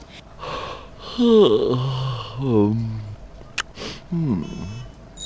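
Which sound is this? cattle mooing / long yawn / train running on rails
long yawn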